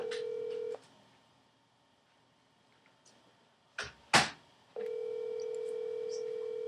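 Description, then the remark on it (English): A phone call rings through the line: a steady electronic ringback tone sounds, pauses for a few seconds with a couple of brief sharp clicks, then resumes, with no one picking up. “Oh, it's calling Saul Wright. He ain't gonna answer.”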